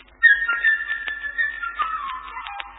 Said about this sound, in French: Par exemple, l'oiseau, ami de Pierre, ce sera la flûte légère et gazouillante.